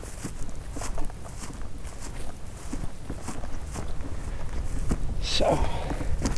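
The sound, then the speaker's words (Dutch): Steady footsteps crunch along outdoors at a walking pace over a constant background rustle, with a brief brighter scrape near the end; people walking up a small hilltop in an open area. “We lopen een klein topje op.”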